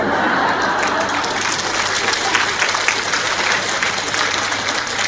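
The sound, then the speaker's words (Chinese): A large audience claps steadily and enthusiastically for about five seconds, giving a speaker encouraging applause, a dense, even wash of applause that holds its level throughout without a clear voice on top. “我最后那句话是：谢谢你们的鼓励的掌声。”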